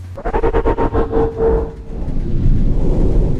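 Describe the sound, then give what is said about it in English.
An ambulance crash as the ambulance spins round and hits something hard: a sustained screeching tone rides over rapid, juddering bangs for about two seconds, then gives way to a loud, heavy low rumble that carries on to the end. “Then we hit something. Hard.”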